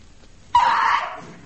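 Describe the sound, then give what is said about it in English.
A single sudden sneeze bursts out loud after a quiet moment, sharp at the start and trailing off over about half a second, with no talking around it. “Bless you, eh? Thank you,”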